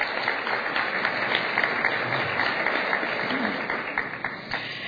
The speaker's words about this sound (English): give a wonderful round of applause to the music we heard today, the …. Thank you so much.